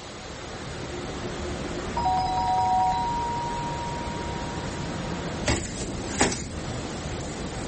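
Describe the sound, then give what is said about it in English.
A doorbell rings once, a steady electronic chime of overlapping tones that fades over a few seconds against a constant low hum, followed by two sharp thuds like a door being handled. “You wouldn't ring my bell for us, would you?”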